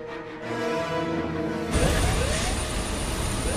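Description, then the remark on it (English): A droning aircraft engine whines, then bursts into a loud roar as the plane, coming in for a landing, sweeps low overhead, with a high-pitched jet whine running through the rushing noise. “Curtis, driving with his team, sees the aircraft swoop low overhead.”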